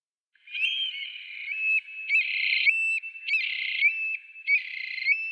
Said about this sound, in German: Und damit leiten wir zum Bird of the Day über und ich spiele ihn ein für euch.